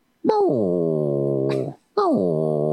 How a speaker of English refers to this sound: Oh, he's a cute dog.